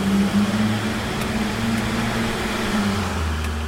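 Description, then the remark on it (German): An off-road vehicle engine drones steadily as it drives fast over a bumpy road through partly narrow mine tunnels, its low hum wavering slightly in pitch over a constant rumble, with no voices present. “Rasant kurvt er auf holpriger Fahrbahn durch die teils engen Tunnel.”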